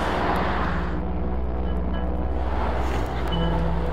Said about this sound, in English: And I hope you could hear most of this, because I know the traffic's loud.